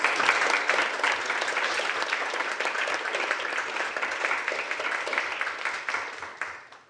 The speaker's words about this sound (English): So, but I just want to thank all of the speakers, particularly for the most recent session, and for all of you who have spoken over time. So, could we have a round of applause for all the speakers?